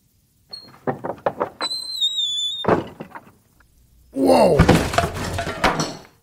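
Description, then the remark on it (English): A wooden door takes a rapid series of heavy thumps, lets out a high creaking squeal, then gives way in a loud splintering crash with clattering debris. “Well, there goes the safe part. I'm not fixing that damn door.”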